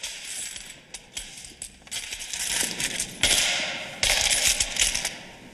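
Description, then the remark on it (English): In a church, a sergeant lets coins from a collection plate trickle and clatter through his fingers onto the plate, a continuous bright metallic jingling that swells in dense bursts, fairly loud with no voices. “He grabs one of the collection plates and lets the coins run through his fingers.”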